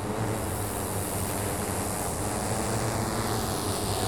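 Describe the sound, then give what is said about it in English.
A steady, droning whir of multiple drones flying overhead in separate designated airspace segments during a test of the system in an urban environment, with a low humming buzz under broad airy noise, continuous and even throughout with no voices. “And we have multiple drones stacked up on different airspace segments, flying on top of each other in their own designated airspace.”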